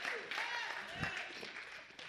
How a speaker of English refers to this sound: Come on, clap and praise him, somebody.